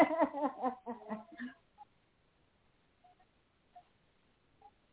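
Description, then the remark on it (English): A young child who doesn't want to go to bed cries in a quick run of short, high-pitched wailing bursts, then falls quiet apart from a few faint, brief tonal blips. “I'm sorry, that's my niece crying. She doesn't want to go to bed.”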